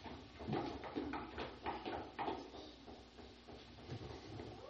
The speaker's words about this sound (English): Jesus Christ, it says, stands at the door. He knocks.